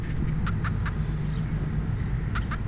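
A steady, low buzzing hum of a larger wild bee's wings runs throughout as it carries food for its larvae into its nest in a brick, with a few brief, sharp high clicks or chirps scattered over it and no talking.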